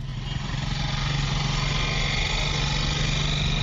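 A motorcycle taxi engine runs steadily in Yaoundé as the driver takes a passenger aboard, a loud continuous droning hum with a rough, buzzing edge and no one speaking.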